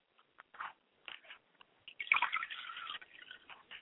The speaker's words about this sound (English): So I'd like to pour water to the ground to sanctify the area in honor of Akamare. I say Ashe.